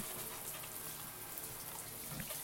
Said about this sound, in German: Und wir müssen uns jetzt nur duschen. Ja, duschen. Ich zuerst.